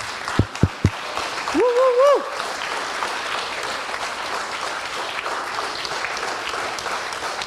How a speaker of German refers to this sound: Danke zu einem wirklich wundervollen Team und ich finde mal, alle Mentorinnen dürfen mal kurz sich erheben und sich einen richtig fetten Applaus abholen.